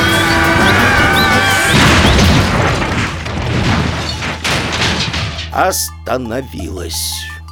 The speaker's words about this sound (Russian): Не снижая скорости, кровать влетела на крыльцо, пробила стену и, ворвавшись внутрь дома